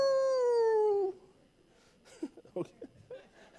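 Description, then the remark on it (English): A person loudly imitates a dog's howl while reading "howl ye" from Isaiah 13, one sustained second-long note sliding slightly downward in pitch, followed by quieter chuckling and brief murmured talk. “when it says howl ye, it's almost like the sound that a dog would make, like you barking at the moon”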